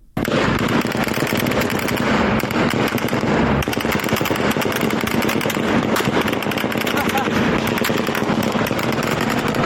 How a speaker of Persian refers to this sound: همزمان ویدیوهای منتشره از پیرانشهر نشان می‌دهد که نیروهای نظامی در پی مراسم تشییع پیکر کاروان قادر شکری از کشته شدگان این شهر اقدام به تیراندازی به سوی معترضان کردند.